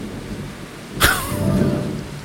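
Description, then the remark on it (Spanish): Heavy rain pours in a steady, hissing wash; about halfway through, a sudden sharp crack breaks in and fades into a low rumble beneath the continuing downpour. No one speaks. “Mira, ahí está fuerte. El tema de la lluvia, po.”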